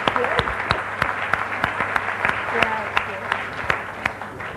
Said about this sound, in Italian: È la terza edizione delle Milanesi, le donne che hanno fatto importante Milano, condotta dalla nostra straordinaria Antonella Boralevi, alla quale farei un applauso di tutto cuore proprio. Grazie.